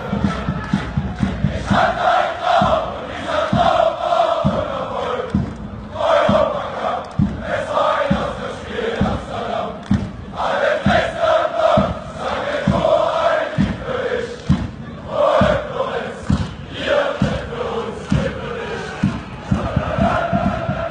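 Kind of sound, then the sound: crowd, football fans chanting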